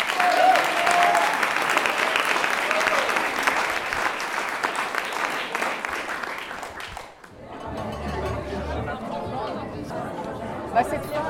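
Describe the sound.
At a pitch event, an audience breaks into dense, steady applause for the next person to pitch, holding strong for about seven seconds, then stops abruptly as a single voice begins speaking.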